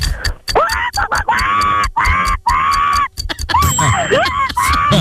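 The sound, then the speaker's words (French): A voice imitates a very angry rooster crowing on waking, for four timed seconds: a run of loud, strained, shrieking cries in quick bursts, each with swooping, rising-and-falling pitch, growing more ragged and squawky toward the end. “Je veux que tu m'imites un coq très énervé au réveil.”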